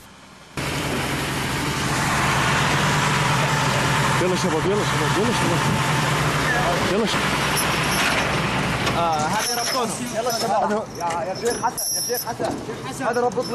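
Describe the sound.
A large cattle transport truck engine idles with a steady, low rumbling drone throughout, while voices talk over it, growing busier and more broken up toward the end.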